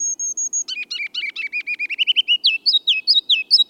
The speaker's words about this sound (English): It's spring, and the ruby-crowned kinglet's loud, rollicking song echoes from the forest edge in northern and western lowlands. Listen carefully, and you can hear three distinct parts of its song.